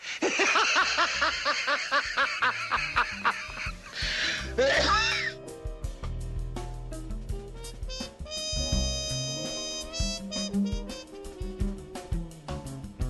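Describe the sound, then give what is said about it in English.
A man laughs uncontrollably in rapid, breathy bursts for several seconds, then chokes and coughs at the end of a 1968 TV ad that shows a TV set and the words "Agnew for Vice President", before music takes over. “you hear a man laughing. You know, he can't control himself. And then he sort of chokes at the end of the ad and coughs.”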